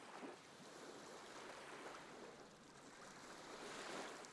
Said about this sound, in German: Sie sitzen angenehm müde und schwer im Sand und hören das Rauschen des Meeres. Seine Wellen schwingen ruhig hin und her.